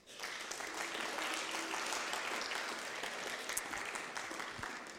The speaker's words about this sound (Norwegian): Gi en applaus.